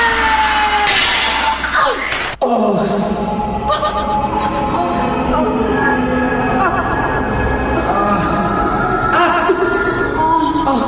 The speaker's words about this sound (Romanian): Oglinda s-a spart în mii și milioane de bucăți